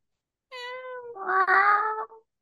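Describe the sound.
A person imitates a cat with one drawn-out, wavering meow that rises and grows louder before trailing off, heard clearly and on its own with no talking.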